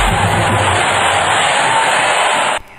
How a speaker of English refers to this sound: I appreciate all those applause.